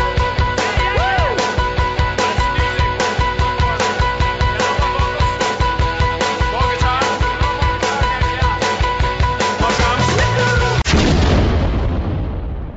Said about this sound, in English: We gotta splice in some audio at that point. An explosion or something.